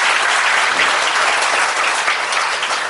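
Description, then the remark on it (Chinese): An audience applauds loudly and steadily to thank the Lord, a dense wash of many hands clapping at once with no pauses, filling the whole clip without any talking. “我哋都要哇，大力啲鼓掌去感谢主啦！”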